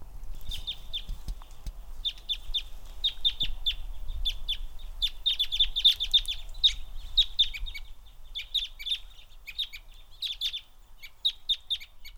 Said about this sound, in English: Matt Young has analyzed my audio recordings of Fayetteville Country Club crossbills.